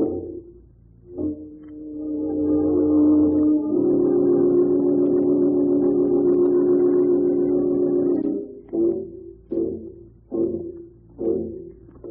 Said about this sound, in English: Yeah, car driving along the road over there.